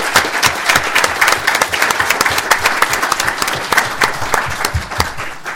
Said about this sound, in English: I'd like them to please stand, and let's give them a round of applause, those of you here in the room.